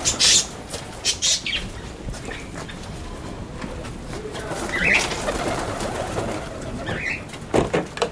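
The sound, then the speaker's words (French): Pet parakeets in the countryside chirp in short, shrill bursts, a cluster of sharp squawky calls at the start and a few scattered ones later, over a steady murmur of background noise with no talking. “Les perruches, les choses comme ça.”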